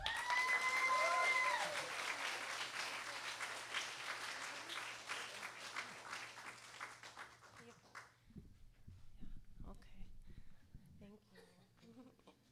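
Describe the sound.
An audience applauds with dense, steady clapping that is loudest at the start, with a brief whistle over it. The applause fades out after about eight seconds, leaving quieter sounds and a voice.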